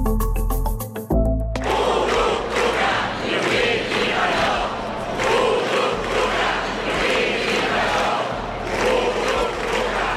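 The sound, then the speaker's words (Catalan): A crowd of hundreds gathered in Plaça Sant Jaume, Barcelona, chants and shouts in unison to claim the 1 October referendum on its 7th anniversary, called by the ANC and CDRs; a loud, dense roar with rhythmic surges, preceded by a brief musical jingle at the start. “És el crit de centenars de persones que s'han concentrat a la plaça Sant Jaume de Barcelona per reivindicar el referèndum de l'1 d'octubre en el 7è aniversari.”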